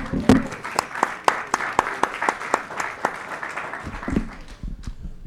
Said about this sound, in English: Jeannie, where are you? Oh, there you are. Big round of applause for Jeannie.